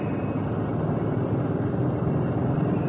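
A large propeller bomber engine, number 4, is started up and roars loudly and steadily, a dense, continuous rumble with no voices and no pauses throughout.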